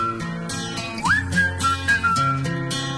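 A bright whistled melody glides upward and then holds steady over a pop backing track with a steady beat and full instrumentation, loud and up front with no voices singing yet.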